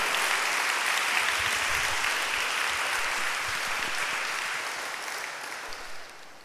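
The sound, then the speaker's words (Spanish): A crowd claps steadily in dense, sustained applause for the Lord that holds loud for several seconds and then gradually tapers off, with no voices standing out. “Un aplauso al Señor.”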